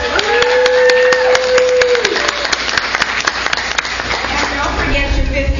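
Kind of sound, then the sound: crowd, round of applause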